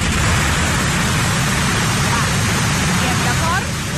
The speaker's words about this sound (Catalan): Així començava la mascleta. Suportable. Normal. La cosa va pujant de to i ens trobem amb això.